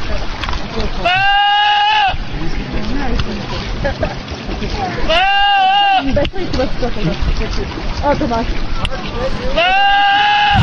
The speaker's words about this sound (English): This one became a huge internet meme. It's called Goat Yelling Like a Man